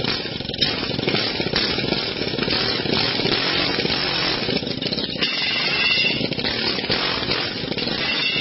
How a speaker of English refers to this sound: See, that's how you do it, Bruce, with an air hammer.